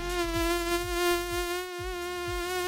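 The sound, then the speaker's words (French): A steady, high-pitched mosquito whine drones continuously, fairly loud, with a faint low thudding underneath and no voices. “Et les amis, je vous ai trouvé ce matin une info sur les saletés de moustiques qu'on déteste tous.”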